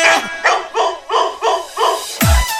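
A dog barks in a quick, steady series of about six sharp, yelping barks, finishing with one louder, heavier bark.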